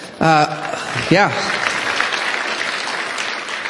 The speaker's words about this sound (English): We probably won't clap at the end of your message, but if we did, I'm sure it'd be more robust than that.